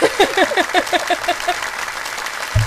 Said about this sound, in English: this applause thing gets me every time. It's a little entertainment for me.